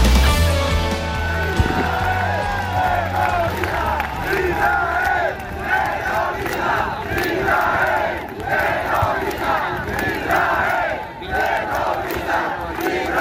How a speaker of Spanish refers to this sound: Gritos de Israel terroristas en esa etapa que hoy llegaba a Bilbao, sonido e imágenes que podéis ver, si no las habéis visto, imagino que ya las habéis visto, en el canal de YouTube del Larguero ahora mismo.